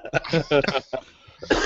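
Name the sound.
cough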